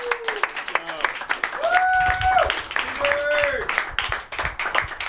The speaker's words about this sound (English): This is now the presentation of the Golden Jug. First off, let's stand up and give a round of applause to our winner